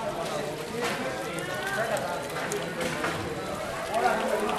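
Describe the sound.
Boat pilots' voices call out over a steady wash of outdoor ambience near water, shouting to announce their arrival before turning into the narrowest canals, with one louder shout rising toward the end, echoing faintly.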